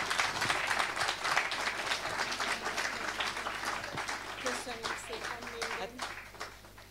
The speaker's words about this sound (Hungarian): Egy jó nagy tapsot kérjük.